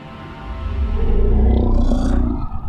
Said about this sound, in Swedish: För sista gången höjde Oden sitt spjut och vrålade sitt stridsrop.